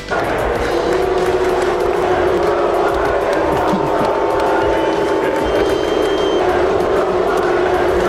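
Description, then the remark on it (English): A huge stadium crowd of Philadelphia Eagles fans roars in a steady, loud wall of jeering voices, booing Jill Biden during a game, drawn out continuously over several seconds with no pause. “Being booed by a stadium full of Eagles fans during the game last night.”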